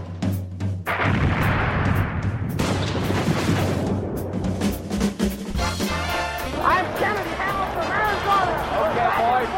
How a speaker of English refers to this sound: It's after midnight here in London. People are dancing on the rooftop. The fireworks are exploding in all directions.